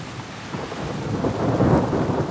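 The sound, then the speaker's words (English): A big thunderstorm with lightning rumbles low and heavy over steady rain, the thunder swelling louder toward the end of the short stretch, with no voices present. “And there is a big storm with thunder and lightning.”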